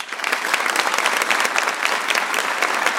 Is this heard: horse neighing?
no